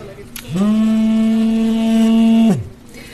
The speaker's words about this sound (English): The sound you hear there, that's a drone detector telling us that there are drones overhead. I'm just looking at the screen and there are at least four.